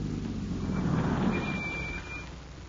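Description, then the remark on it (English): A car's low engine rumble eases off as it slows, with a thin, high brake squeal in the second half before it settles to a stop at a billboard sign. There is no talking. “Slow down, come to a stop at that billboard sign.”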